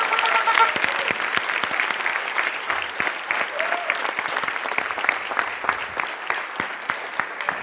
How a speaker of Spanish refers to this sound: Dale un aplauso bien fuerte.